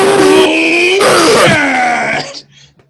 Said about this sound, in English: Hey, whole song in 0.4 seconds.